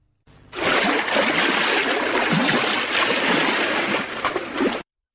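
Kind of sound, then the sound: nature, water splashing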